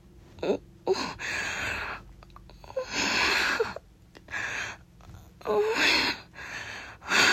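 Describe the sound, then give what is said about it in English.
Heavy, close-miked breathing onto someone's neck: a series of loud, airy inhales and exhales with a few sharp gasps, repeating unevenly for several seconds, with no talking. “Oh, you can feel. My mouth and my breathing on you.”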